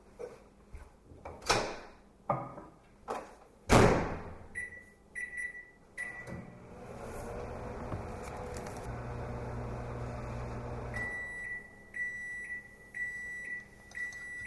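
microwave oven running

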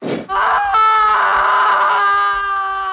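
woman screaming loudly

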